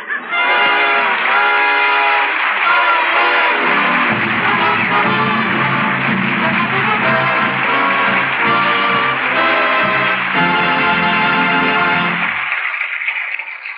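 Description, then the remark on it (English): A train at Cleveland, bound for Washington, running: a loud, sustained chord of whistle-like tones holds for over ten seconds while a deep, steady rumble joins after a few seconds, then everything fades out. No one speaks. “The train's just going to be here in Cleveland for 10 minutes.”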